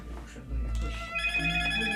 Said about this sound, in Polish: To u mnie znowu coś? Telefon nie wyłączyłam.